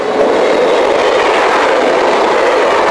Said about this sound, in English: Hey! What are you doing? The train! Get off the...